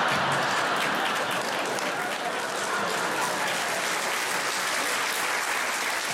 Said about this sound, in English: Incredible that would get a round of applause.